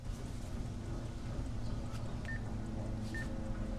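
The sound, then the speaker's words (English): Two short, high keypad beeps as a woman taps a phone's touchscreen to dial in a kitchen, spaced about a second apart, sounding over a constant low rumble of background noise, with no talking. “She rests her hands on the edge of the counter, then snatches the phone up again and taps on the screen.”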